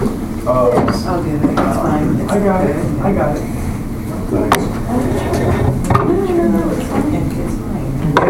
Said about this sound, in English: If you're listening to us, we're getting chairs settled. Maybe not that one. We'll try to fix that one. Not that one. Hey, we got a chair.